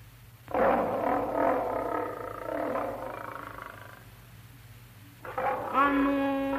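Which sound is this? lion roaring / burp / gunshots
lion roaring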